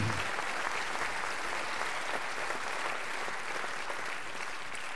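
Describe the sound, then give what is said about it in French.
A concert crowd applauds steadily for five seconds, thanking a band member. It is a dense, even patter of many hands clapping at constant loudness with no voices standing out. “Voilà, on peut l'applaudir”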